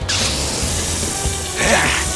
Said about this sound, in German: Blitzschnell stach der Mann in den Vorderreifen seines eigenen Lastwagens. Laut zischend entwich die Luft. Doch das war noch nicht alles, denn Sekunden später zerstach er einen der hinteren Reifen.